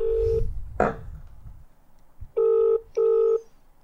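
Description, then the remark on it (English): A phone call being placed to a pizza shop: a short tone and a click of dialing, then a loud ringback tone in two quick bursts, the double-ring pattern, with no one talking. “If they don't pick up, I might just leave a voicemail and then we'll call someone else.”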